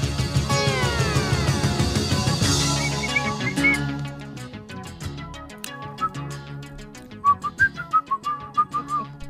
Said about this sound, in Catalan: Sí. Sempre m'ha agradat molt xiular.